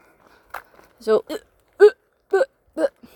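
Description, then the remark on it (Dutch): A voice imitates hiccupping: a run of five or six short, sharp voiced gulps at slightly uneven intervals, fairly loud, with no other sound around them. “Maar ik ging eigenlijk zitten en al vrij snel hoorde ik een soort hikken.”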